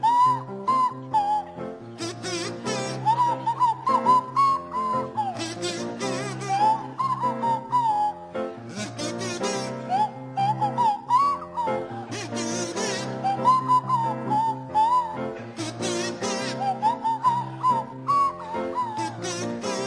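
A kazoo buzzes out a bouncy melody alongside the sliding, breathy tones of a swanee whistle, with piano backing keeping a steady rhythm throughout; no one speaks.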